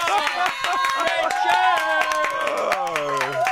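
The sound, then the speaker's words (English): A live audience applauds Richard Curtis with steady, dense clapping, while excited voices whoop and call out loudly over it. A rising, sustained shout stands out near the end. “Control, round of applause for the legend that is.”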